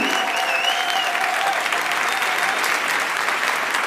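A crowd applauds a 'construction crane' (Baustellenkran) act, a dense, even wash of many hands clapping at constant loudness throughout, with a few faint tonal whistles or squeals drifting over it.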